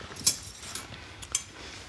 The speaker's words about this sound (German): Zwei wunderschöne gefrostete Gläser mit nochmal frischem Eis.